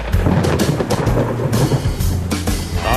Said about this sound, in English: Aren't we please just have a bloody storm?